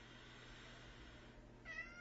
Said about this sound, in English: Go away, cat.